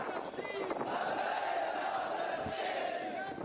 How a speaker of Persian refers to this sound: از مناره‌های مساجد تا کوچه‌های قدیمی شهر فریاد لبیک یا قدس در آسمان پیچید و مردم هرات صدای همبستگی با ملت فلسطین را به گوش جهان رساندند.